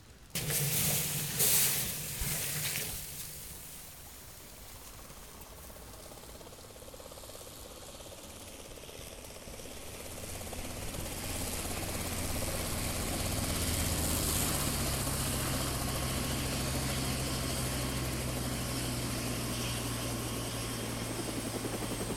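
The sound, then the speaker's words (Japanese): A large twin-rotor Chinook helicopter roars with a steady, throbbing engine drone that swells louder about halfway through and stays heavy to the end, with no voices. “Tell them we need a Chinook helicopter here right away.”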